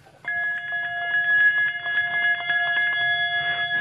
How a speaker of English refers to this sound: it's one thing to look at a bell. It's another thing to ring it. Would you like me to ring a bell for you